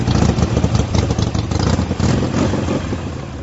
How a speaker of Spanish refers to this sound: Un grupo de 6 moteros apodados los Inrider recorrerán más de 5.000 kilómetros por las carreteras españolas en sus míticas Harley Davidson.